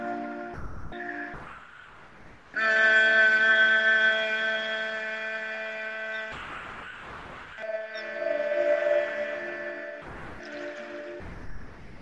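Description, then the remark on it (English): During a soul sync meditation, long, steady, low-pitched humming tones made on the exhale, buzzing like a bee, repeat with short breathy pauses between them; each hum holds one even pitch and fades slightly before stopping. “Inhale deeply, and as you exhale, you will make a humming sound like a bee.”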